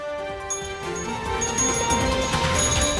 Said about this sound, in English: You got that breaking news sounder for me? Let's go with it.